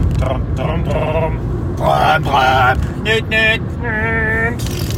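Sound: car interior driving noise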